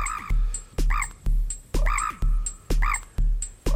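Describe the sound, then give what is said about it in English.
A processed, croaking bird call repeats in a steady looped rhythm over punchy beats, with bright chirpy accents and a pulsing low end driving the pattern. “I love what it did to your bird sound.”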